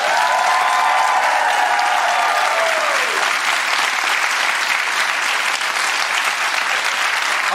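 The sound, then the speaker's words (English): A loud, sustained burst of audience applause and cheering for Michael Costa, dense clapping holding steady for several seconds, with a brief whistle-like tone gliding down early on. “Y'all give it up for Michael Costa.”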